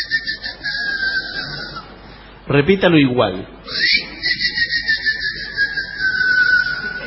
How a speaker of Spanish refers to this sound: Cuando vengo yo, que me reconozca por algo, un chiflido. Un chiflido es difícil. A ver, algún chiflido contraseña.